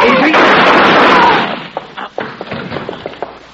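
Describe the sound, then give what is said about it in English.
A loud, sharp gunshot blast opens with a broad noisy roar that lingers for over a second, then fades into scattered clicks and soft thuds. “But this is a gun you're looking at, sucker.”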